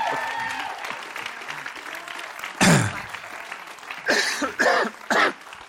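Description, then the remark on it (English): A crowd claps steadily throughout, with several loud bursts of cheering and whooping rising above the applause near the end. “So don't you want to give them a cheer?”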